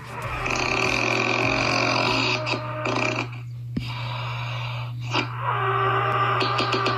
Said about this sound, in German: Ist das die größte Schnarchnase oder dann doch der hier?